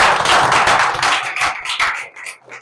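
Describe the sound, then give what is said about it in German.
A burst of audience applause at a live recording at the DB Youngster Sommerfestival 2025, many hands clapping densely and loudly at first, then thinning into scattered individual claps as it fades over a few seconds. “Grüßt euch Jungs, erstmal einen fetten Applaus, schön, dass ihr da seid.”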